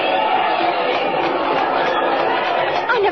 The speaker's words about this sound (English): Look at all those people. Listen to them cheer.